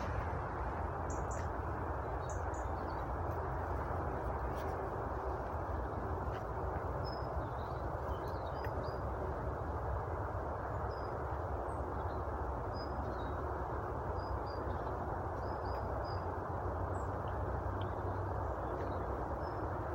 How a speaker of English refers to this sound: I'm just by the side of the beck now, and you may be able to hear some of the birds are actually coming out now in the sunshine.